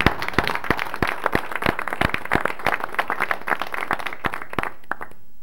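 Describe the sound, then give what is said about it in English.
Attendees of a meeting applaud a recognition of the University of Illinois, a steady patter of many overlapping claps lasting several seconds before tapering off into quiet at the end. “Let's applaud it then.”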